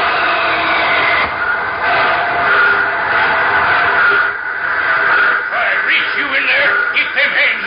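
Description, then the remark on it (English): A train brakes hard to a stop, with a loud, steady grinding roar and high metallic squealing that rises and wavers over several seconds as it slows, without voices. “They're flagging you down. Slam on those brakes.”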